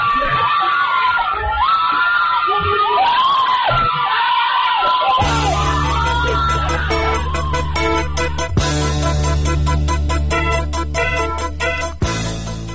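Several voices scream and yell in frantic, overlapping bursts for about five seconds during a street protest as a police van runs over a man; recorded on a citizen's mobile phone on Ashura, 6 Dey 1388, in the post-election protests. Then a loud, dense, steady sound like music takes over, and the screams are buried beneath it.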